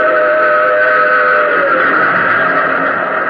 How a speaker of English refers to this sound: A rumble filled the air. And just as I reached the rail bed, I saw the tunnel hewn out of mountain rock. And plunging from the tunnel's mouth, like some black, terrible monster, roared a train. It tore by me in a deafening roar.